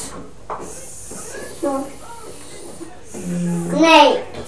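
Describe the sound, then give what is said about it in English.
A child's voice makes a short hissing sound imitating a snake for the letter S while practising letter sounds, rising near the end. Quieter voiced sounds come just before it. “Snake, brilliant!”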